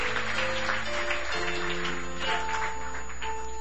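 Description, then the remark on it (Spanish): A crowd claps steadily and loudly for several seconds, applauding God, a dense wash of applause over sustained keyboard or organ chords that shift pitch now and then. “Dale el aplauso fuerte a tu Dios.”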